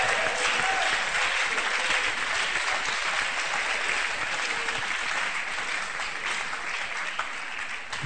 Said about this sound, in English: Clap your hands, all ye people.